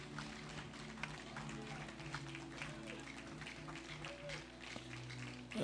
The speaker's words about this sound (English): Another clap offering. Hallelujah.